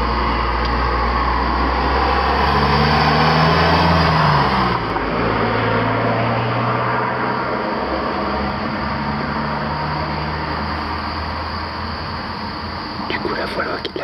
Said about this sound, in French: Ah, il y a une voiture qui arrive évidemment au moment où je décide d'enregistrer. C'est le principe, on l'entend au loin. Je sais pas si elle va se rapprocher. Évidemment, elle décide de passer juste devant.